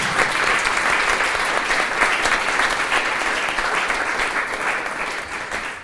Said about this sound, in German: Ja, und vielleicht erstmal auch einen schönen Applaus